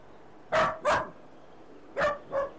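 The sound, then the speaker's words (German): Frau Paschulke's dachshund Fifilein, in a park, barks four times in two quick pairs separated by a short pause; the yaps are sharp, bright and fairly high-pitched, standing out clearly with no talking. “Und tatsächlich sitzt auf einer Bank Frau Paschulke mit dem Dackel.”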